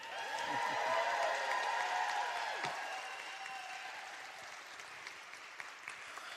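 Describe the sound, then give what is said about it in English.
A crowd applauds loudly with scattered cheers and shouts rising over the clapping, the noise peaking early and then easing into steady, softer applause. “Put your hand together, let me hear you scream.”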